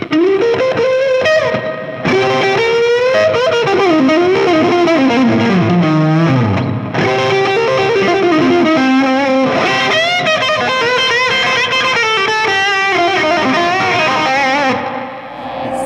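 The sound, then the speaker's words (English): An electric guitar played through a Tube Screamer overdrive pedal in the older TS-808 style, left on for more distortion, giving a warm, gritty, saturated tone across a continuous melodic phrase with bends and sustained notes, loud, with no talking. “Just leave that on all the time, okay. Just to get these guys more distorted.”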